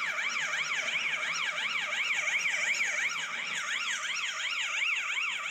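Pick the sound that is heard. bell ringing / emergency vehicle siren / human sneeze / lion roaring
emergency vehicle siren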